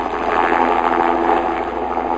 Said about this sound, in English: Helicopters to the rescue. We'll explain in a Weather Brains Extra, the big chill.